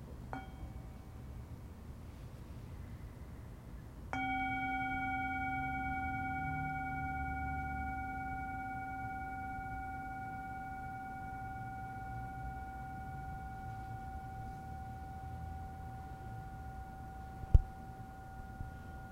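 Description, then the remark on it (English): A meditation bell is struck once at the start of a guided meditation and rings out alone, its bright layered overtones holding a steady shimmering tone that fades very slowly over many seconds, with a soft tap near the end. “So once again, we'll start by settling in, and let's listen to one sound of the bell to just help us settle in.”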